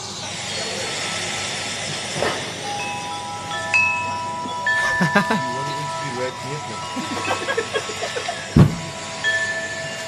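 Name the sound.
wind chimes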